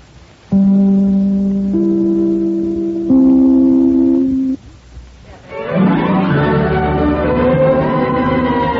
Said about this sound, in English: Now it's time for me to ring my chime. This, darlings, is NBC, the national broadcasting company.